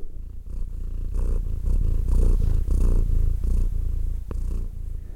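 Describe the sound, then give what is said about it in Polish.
A domestic female cat, lying among paper notes, purrs steadily, a low rhythmic rumble pulsing with each breath, with a brief soft click near the end and no voices. “moja kotka, muszę to powiedzieć, tak bardzo, bardzo się zainteresowała totemem, że ułożyła się tutaj pomiędzy moimi wszystkimi notatkami i po prostu tak bardzo się w nich rozgościła, tak cudownie mruczy, że musicie to usłyszeć.”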